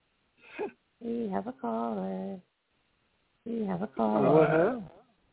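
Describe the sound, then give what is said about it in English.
A pet bird calls in a few squawky, voice-like bursts: a short chirp, then two longer warbling calls, a pause, and a louder wavering call. “And we have a caller.”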